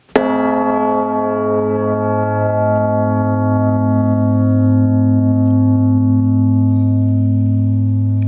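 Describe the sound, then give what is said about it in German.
A newly cast bell, set swinging by its clapper, gives a single deep strike that rings out and then hums on for several seconds. Its layered overtones (fifths, thirds, primes) sustain steadily with a long, rich resonance and no voices. “Man merkt, wie die Quinten, Terzen, Primen und so weiter sich in dieser Glocke entfalten.”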